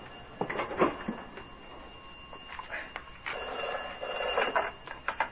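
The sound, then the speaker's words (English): The vestry telephone of St. Margaret's Church rings in several repeated bursts, a trilling bell-like ring that comes and goes with short pauses between, fairly quiet and heard alone without talk. “That's the vestry phone, strange.”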